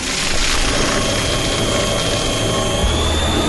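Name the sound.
paper shredder shredding paper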